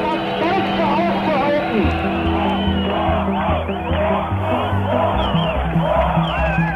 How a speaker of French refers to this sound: Tür auf, ouvrez les portes, un cri repris de part et d'autre du mur lorsque des milliers d'Allemands, à l'Est comme à l'Ouest, ont appris l'extraordinaire nouvelle.